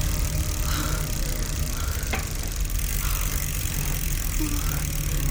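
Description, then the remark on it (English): A car engine rumbles steadily as a man drives slowly into a driveway in farmland, with a brief sharp knock partway through and a dense, constant low drone throughout. “There! He's pulling into that driveway. He's getting out of the car.”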